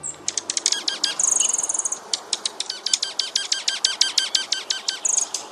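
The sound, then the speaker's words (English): Junco calls and chirps: a quick, steady run of sharp, high chips with a couple of brief buzzy trills mixed in, clear, with no one talking. “If you like controversy, watch the Junkos at your bird feeder.”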